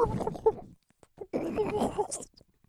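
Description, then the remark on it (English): A voice imitates a dolphin call in two close bursts of warbling, squeaky vocal noise, the second rising into a thin high squeal before trailing off into a brief quiet. “And yep, the grapefruit dolphin call.”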